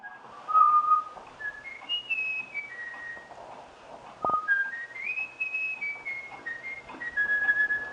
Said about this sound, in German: Hier pfeift, verblüffenderweise, kein Mensch, sondern ein Gimpel. Beigebracht hat ihm das der inzwischen verstorbene Forscher Jürgen Nicolai durch regelmäßiges Vorpfeifen.